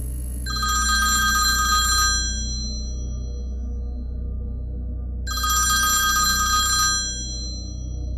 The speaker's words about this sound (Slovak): Telefón začal zvoniť, čím prerušil mŕtve ticho.